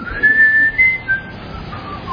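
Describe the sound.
A man whistles a few wandering tonal notes, a short idle melody with brief pauses between phrases, clear with no talking.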